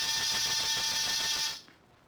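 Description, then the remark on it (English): An apartment door buzzer, with the name Ruth Cornwall underneath it, rings in one steady, harsh electric buzz lasting about a second and a half, then cuts off into near silence. No one speaks. “After disturbing 7 occupants of 7 different apartments and getting 7 nasty comments, I rang one buzzer.”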